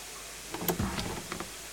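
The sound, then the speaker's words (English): A small door opens with a few short clicks and a soft low thump, followed by a faint rattle, all over a steady background hiss. “Another door. It's smaller.”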